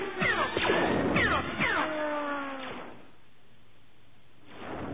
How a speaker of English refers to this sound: The peal of metal striking metal and the scream of the door being torn from its rail snapped Gavin Darklighter's head around. We saw the gate come crashing down, then the riderless speeder bike flying into the warehouse.